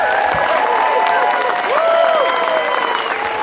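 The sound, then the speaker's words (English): A crowd claps steadily in a dense, continuous patter, with scattered whoops and cheering voices rising over the applause throughout, giving another hand for a band at an Indivisible Madison event. “Let's give another hand for the …, guys.”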